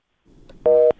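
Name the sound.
telephone busy tone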